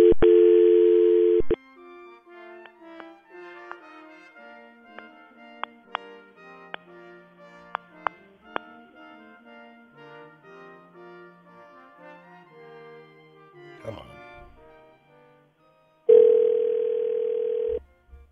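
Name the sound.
telephone dial tone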